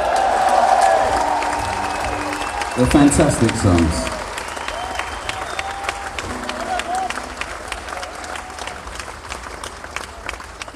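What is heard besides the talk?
audience applause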